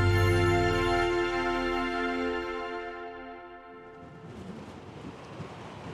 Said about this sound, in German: Guter Wind. Leider ein bisschen Regen dabei.